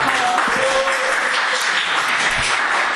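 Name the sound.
applause in council chamber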